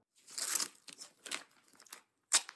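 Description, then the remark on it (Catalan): Extra-strong duct tape being ripped off a roll to patch a crack: several raspy, crackling tearing bursts in an uneven rhythm, ending with one short, sharp rip that stands out louder. No voices are heard. “Tinc un rotllo de cinta americana extrafort a la motxilla.”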